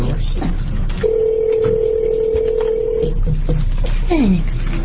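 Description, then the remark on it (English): A steady electronic telephone tone holds for about two seconds as a phone is dialed during a legislative panel hearing, followed by a couple of short lower beeps and a brief sliding tone, over constant background hiss with faint voices. “I can dial the phone, but I forget they're all on the same line.”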